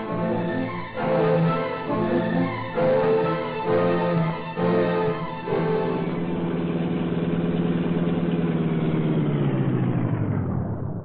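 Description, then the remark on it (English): The engine of the Black Beauty car runs as it heads out the south road toward a deserted brickyard, revving in several short surges before settling into a steady drone whose pitch slowly sinks as the vehicle eases off. No one speaks. “Come on, Cato, we'll take the Black Beauty again and investigate that deserted brickyard on the south road.”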